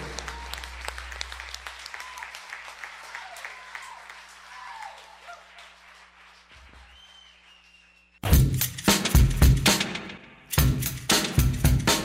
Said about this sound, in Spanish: aplauso.